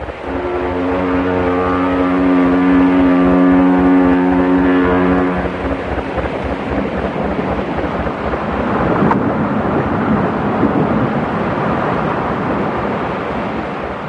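A big paddle steamboat bears down loudly on a raft in the middle of a river, a deep droning horn-like tone over a steady rhythmic churning of the paddle wheel that gives way to a heavy rush of thrashing water and engine rumble.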